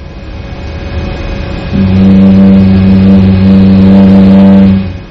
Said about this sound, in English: How cool is that, eh? Sounds like a jet engine, doesn't it?